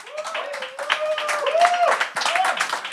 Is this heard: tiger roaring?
no